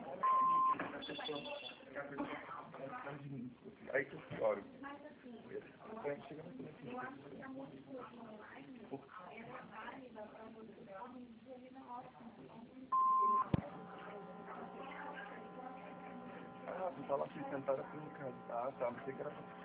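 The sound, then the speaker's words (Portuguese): A short, steady answering machine beep, following a Portuguese recorded message asking callers to leave their name and phone number, sounds at the start and again partway through, clear and mid-pitched, while people talk almost continuously around it. “Por favor, deixe seu nome e número de telefone após o beep para que possamos retornar a sua chamada.”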